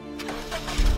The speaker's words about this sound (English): Puts on her seatbelt, starts the car, and backs up.